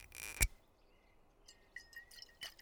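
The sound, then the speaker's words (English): A brief splashing rush of wine pouring into a cup, followed by faint glassy clinks and small drips. “Would you like some wine? Here, I'll pour.”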